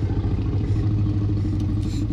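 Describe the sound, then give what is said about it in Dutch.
A slowed-down growl of Buster, sound designer Gary Rydstrom's Jack Russell Terrier, used as the Tyrannosaurus rex growl in Jurassic Park, stretched into a deep, rough, continuous rumble that sounds almost like an idling engine, steady and fairly loud for about two seconds with no talking. “En het grommende geluid van de Rex is niet afkomstig van een poedel, maar het is het vertraagde geluid van Buster, de Jack Russell Terrier van Gary.”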